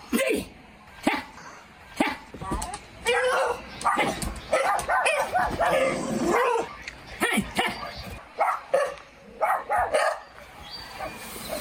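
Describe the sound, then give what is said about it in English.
A dog barks and yips in repeated bursts, with some whining cries between them, while a man vocalizes along with it, talking to the dog. “I think he's talking to the dog.”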